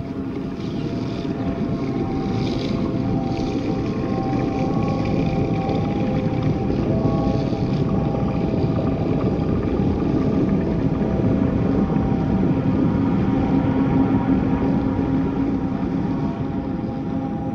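strong wind blowing

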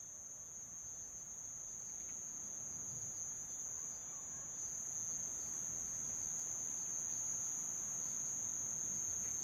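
crickets chirping at night

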